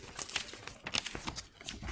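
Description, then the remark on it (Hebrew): Paper sheets rustle and crinkle in a quick string of soft, irregular bursts as pages are handed out, two sheets to each person, fairly quiet, with no voices over them. “זה הדף הבא שלנו. אתה יכול לבוא לחלק? שני דפים גם כן, כל אחד.”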